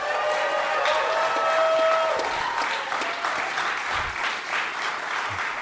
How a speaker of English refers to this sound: And boys, I am super, super stoked to be here with a live studio audience. So let's hear from them. You guys clap it up.